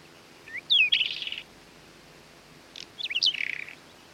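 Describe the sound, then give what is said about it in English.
A whinchat gives two short call phrases about two seconds apart, each a high, thin whistle sliding downward followed by soft, rapid ticking clicks, with no voices. “It can frequently be seen sitting on fence posts or small bushes, making a soft clicking call.”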